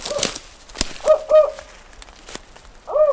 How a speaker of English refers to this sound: National Park Service ecologist Bill Merkel is playing this recording of a spotted owl in hopes of hearing from a real one. It's almost dusk, and we're standing in a dense forest near Muir Woods, just north of San Francisco.